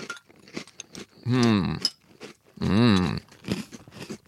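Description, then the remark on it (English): Crisp crunching of dry Cinnamon Toast Crunch cereal being chewed in quick, uneven bites, broken by two longer, louder voiced sounds from the person eating. “Yeah, I haven't been trying these dry, but I just tried this one dry. It's very good.”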